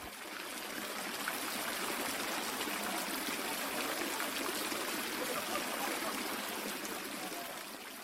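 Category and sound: nature, river current flowing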